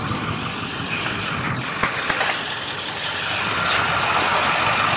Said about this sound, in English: This guy's parked in the street. There's trucks loading traffic, blocking traffic. There's trailers. There's people standing around talking.